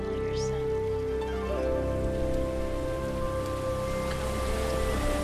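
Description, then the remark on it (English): Bubbling river water runs in a steady, continuous wash of rushing, trickling noise, with soft sustained tones humming underneath; no one speaks. The rivers are in a forest, with the water off in the distance. “You hear the hypnotic sounds of the bubbling of the rivers.”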